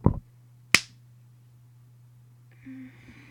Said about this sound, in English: And I'm just gonna give you a nice little slap on your pussy.